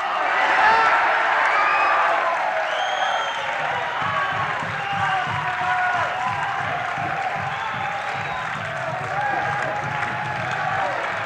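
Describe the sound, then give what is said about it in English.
A large audience cheers and shouts continuously for a singer, many voices overlapping in high yells and whoops, with scattered clapping mixed in, staying loud for the whole stretch. “Maybe you ought to shout a little louder.”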